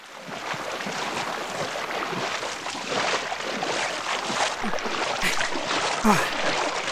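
A fishermen's boat moving across open water, with a steady rush of water and wind noise filling the whole clip and no clear break.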